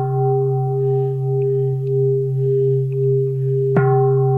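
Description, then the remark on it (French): A deep Buddhist pagoda temple bell, rung for great ceremonies, hums with a long, steady ring, then is struck again near the end, a fresh metallic clang blooming over the lingering tone. No voices are heard. “Je vais vous faire entendre les cloches, d'accord? Et ça, c'est pour les grandes cérémonies.”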